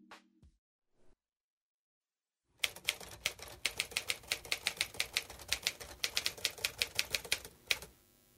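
A manual typewriter clacks away in a rapid, irregular burst of sharp keystrokes, crisp, with a bell-like ding near the end; a short tone and silence come before it, no voices.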